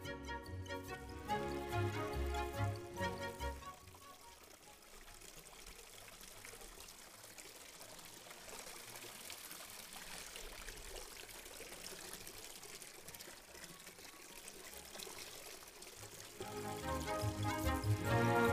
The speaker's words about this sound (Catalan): Bé, el soroll de l'aigua, aquest sorollet, una mica més alt, és una manera molt pràctica per despertar, sobretot infants.